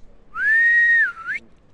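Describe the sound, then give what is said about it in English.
A single human whistle, a sustained steady tone that wavers and dips briefly before sliding up at the end, clear with no talking over it. “I know, my whistling isn't quite as good as it could be.”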